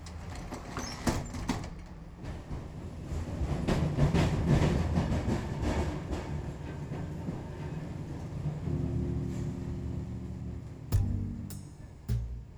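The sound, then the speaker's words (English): A subway train rumbles steadily on its rails, low and continuous, with metallic clatter and a few sharp clanks and squeals toward the end; no one speaks. “What are you going to do, just leave him on that hell train?”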